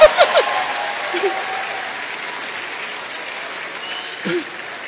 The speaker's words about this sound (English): Clap, you are going to clap. That's a good place to clap.